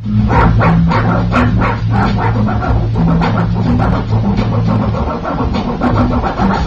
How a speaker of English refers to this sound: But the ones that we have audio for, one is a French bulldog DJ. Oh, I love him so much. The French bulldog has his paw on the record and is scratching.